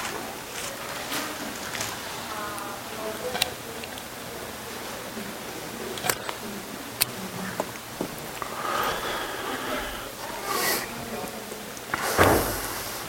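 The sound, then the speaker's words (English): Scattered crisp rustles and flicks of Bible pages being turned by many people looking up John chapter 20, irregular and overlapping, with a faint murmur in the background and a louder papery swish near the end. “When I stop here and pages turn, I'll guess everybody's there.”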